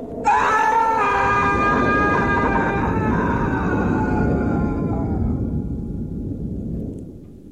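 One long, loud monstrous roar from a dying demon falling to the ground in Vrindavan bursts in abruptly and holds for several seconds over a deep rumbling bed, its shrill wailing overtones slowly sagging before the whole cry fades away.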